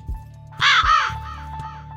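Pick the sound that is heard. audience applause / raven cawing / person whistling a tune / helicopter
raven cawing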